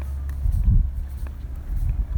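Light, slapping flip-flop steps on pavement, a handful of soft smacks roughly every half second, over a steady low rumble.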